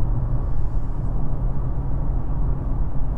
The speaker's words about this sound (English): All right. Well, I guess I should try to concentrate on my driving here. Here we go again. Slowing down to 0. Oh, maybe not. Someone's just tail brake happy.